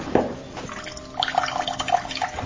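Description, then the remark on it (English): A kitchen faucet runs cold water with a thin, weak, low-pressure stream, splashing and trickling steadily, with small bright drips and gurgles rising partway through. No one speaks. “This is my cold water pressure in the kitchen.”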